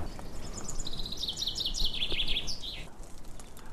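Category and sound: bird, common chaffinch singing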